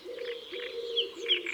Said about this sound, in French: Nous sommes au bord d'un étang, le 16 mai, à l'aube, et il y a beaucoup d'oiseaux ici. D'abord une tourterelle des bois, tout près, des rossignols, des rousserolles, un pigeon ramier et un héron cendré qui survole l'étang.